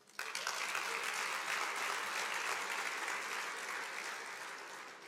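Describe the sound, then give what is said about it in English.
A church audience breaks into sustained applause for God, a dense wash of clapping that starts abruptly, holds steady and loud for several seconds, then begins to thin slightly toward the end. “Then let's give him an applause.”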